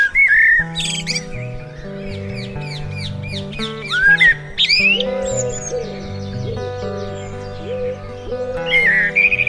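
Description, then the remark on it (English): Garden birds in London, England, including pigeons, blackbirds and magpies, sing and call continuously, with bright whistled phrases and quick chirps layered over a steady, softer background chorus and lower cooing notes, lively throughout. “Alongside all of this is the constant soundtrack of the birds, ever present from dusk till dawn.”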